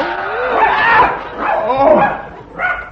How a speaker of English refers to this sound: It's a wolfhound. Get it go, you brute.